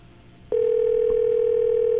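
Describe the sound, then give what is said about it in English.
A steady, continuous telephone dial tone from a payphone on a beach starts abruptly after a brief quiet moment and holds loud and unwavering to the end, with faint background hiss underneath. “See if I got the phone to dial.”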